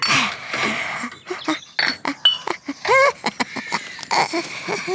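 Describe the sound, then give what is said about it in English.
Glass bottles in a box clink and rattle together as they are carried off into a forest, in a quick, uneven series of bright, ringing chinks, with a high voice warbling over parts of it. “When she had finished, she put all her bottles into a box and carried them off into the middle of the forest, where she had already set up a market stall.”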